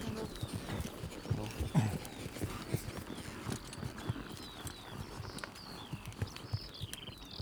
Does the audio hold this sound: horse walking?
yes